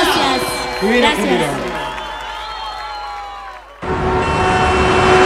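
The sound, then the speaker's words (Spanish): Tonal, voice-like sounds are abruptly cut off by a loud burst of crowd applause and cheering, a dense, steady roar that fills the last second and a half. “Las manos en el aire, aplauso para muchísimas la gracias.”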